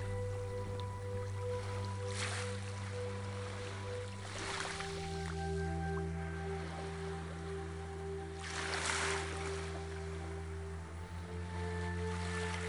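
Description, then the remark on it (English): Soft ocean waves wash in over soft sand and recede every few seconds, swelling gently over a steady low humming drone, with no voices. “In this moment, silently surrender your stress to the waves.”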